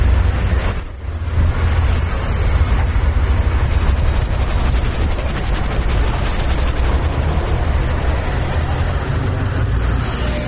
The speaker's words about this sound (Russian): А это улица Маршалковка, где я выхожу из автобуса. Самый центр города. 7 часов 45 минут.